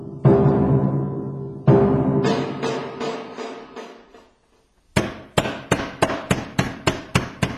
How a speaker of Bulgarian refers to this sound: Кой чука?